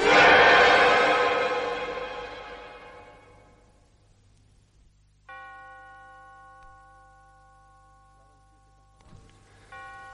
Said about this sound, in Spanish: Daban 7 campanadas cuando se abrió la puerta de la casa del trapero.